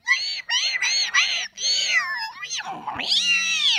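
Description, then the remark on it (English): A voice imitates underwater whale calls: four quick whooping cries, then longer wavering, swooping moans that dip low and rise again, fairly loud with no other sounds. “And he put a microphone in the water and it was just like, You could hear all the whale activity.”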